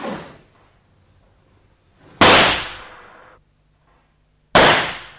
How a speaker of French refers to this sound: Vous avez entendu, on a tiré. C'est dans le musée.